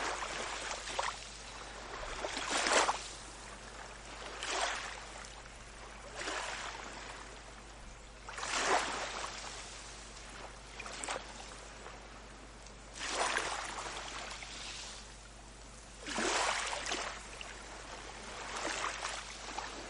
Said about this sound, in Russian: Вы ровно дышите и слушаете звук волн. Крики чаек и звучание волны расслабляет и тонизирует.